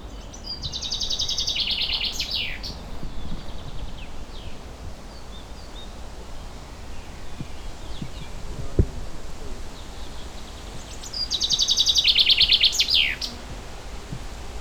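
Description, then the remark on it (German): A common chaffinch sings two bright, descending song phrases, one near the start and another near the end, with quiet rustling outdoor ambience between them and no talking. “Ja, ein Buchfink rum.”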